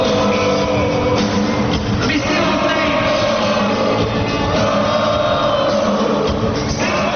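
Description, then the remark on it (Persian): A large crowd at an Irish rock band's concert in Montreal, Canada, roars continuously, dancing, repeating the song and shouting with joy, many voices cheering and shouting at once in a loud, dense wall of sound that never lets up. “آنها رقص می نمودند، آهنگ را تکرار می کردند و از خوشی فریاد می کشیدند.”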